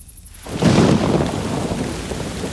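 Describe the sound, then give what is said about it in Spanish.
A deep roll of thunder swells in after a brief quiet moment, rumbling loudly over steady heavy rain that keeps pouring throughout, in Cádiz in the early morning of 19 March 1812. “Tal vez la tormenta fue un presagio.”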